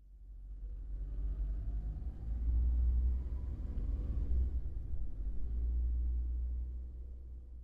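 A car driven by a chauffeur hums low and steady as it drives, a continuous engine rumble swelling slightly in the middle, with road noise underneath and no voices.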